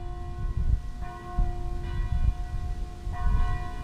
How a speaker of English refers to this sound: At 5 o'clock, just about the time a year ago, water started bubbling through the bottom of elevators at Columbus Regional Hospital, all the church bells in the city start ringing in unison. Standing on any street corner, different toned clangs mix